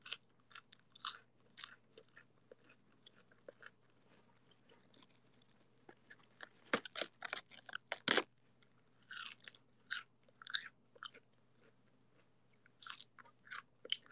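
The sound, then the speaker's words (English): Crisp crunching of someone chewing a cold, fresh head of lettuce taken from the fridge, with bursts of wet crunches coming in irregular clusters and brief pauses between bites, no talking. “I'm eating lettuce.”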